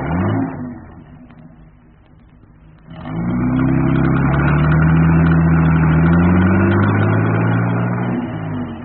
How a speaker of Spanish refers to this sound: El auto tripulado por Calimán dio vuelta a la solitaria calle y se alejó a toda velocidad